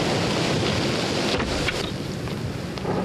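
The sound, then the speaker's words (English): A storm at sea: a steady, loud roar of wind and churning waves fills the whole clip, with a few sharper gusts and splashes cutting through. No voices. “Money is worthless if we give up our lives in this storm.”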